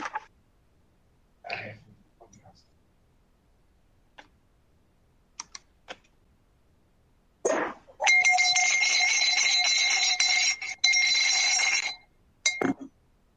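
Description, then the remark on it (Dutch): The chamber bell of the Dutch House of Representatives (Tweede Kamer) rings loudly and continuously for about four seconds, a bright metallic trill, followed by a couple of short bursts. Scattered soft clicks and knocks come before it, with no talking. “Zo, de bel van de Tweede Kamer heeft gerinkeld.”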